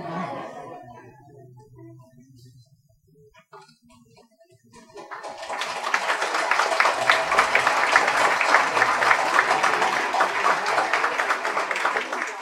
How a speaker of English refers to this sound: I see you haven't learned your lesson about applauding real hard.